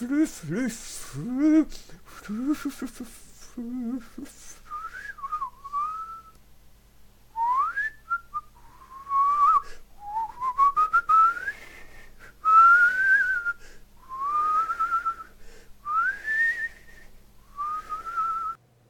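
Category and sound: human body sound, person whistling a tune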